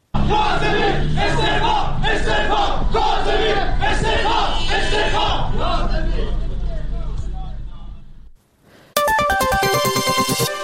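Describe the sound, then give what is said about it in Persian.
A large crowd of protesting workers chants loudly in rhythmic bursts at a rally in Urmia, Iran, demanding the resignation of the municipality's head of security, for about eight seconds, then fades out; after a brief gap a bright electronic jingle of stepping tones begins. “در این تجمع کارگران معترض همچنین خواستار استعفای مدیر کل حراست شهرداری ارومیه شدند.”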